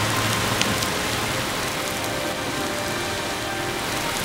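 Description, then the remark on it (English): Heavy rain pours down steadily, a dense, continuous hiss of drops drumming on surfaces, with no voices and no breaks for the whole stretch. “Seen it rain this hard in a long time.”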